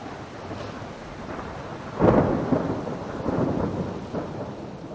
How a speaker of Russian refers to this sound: С воскресенья на понедельник в чешской столице прошла буря.